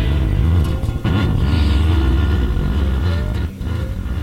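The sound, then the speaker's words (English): A train rumbles steadily, a loud, continuous low roar with a rushing hiss on top, dipping only briefly twice before surging back to the same unbroken drone. “The train itself just sounds like a constant wave that never breaks.”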